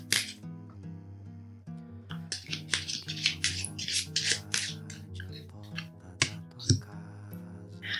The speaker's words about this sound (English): Okay, so let's shuffle these cards and see what we need to affirm today.